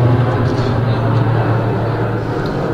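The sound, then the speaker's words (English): A steady, rumbling roar of a jet aircraft passing overhead, loud and continuous with a deep low hum beneath a broad wash of noise, holding level throughout without fading. “Fighter jet or something going over.”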